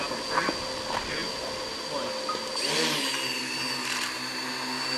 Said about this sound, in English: The small four-prop helicopter hovered high over caribou inside a fenced area, taking aerial images, a demonstration of what the computer program-controlled drones can do to count and assess animal populations in the wild.